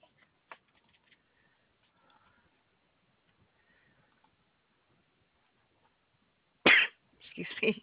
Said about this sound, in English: Excuse me. Bless you.